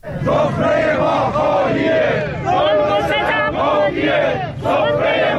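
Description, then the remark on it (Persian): A large crowd of protesting retirees and pensioners chants loudly in unison in front of parliament in Tehran, Iran, repeating rhythmic phrases in waves of about a second each, with brief dips between chants and many voices blending together. “دیروز اینجا بازنشستگان معترض در تهران مقابل مجلس و در شهرهای بزرگ دیگر ایران در تجمعاتی اعتراضی شرکت کردند.”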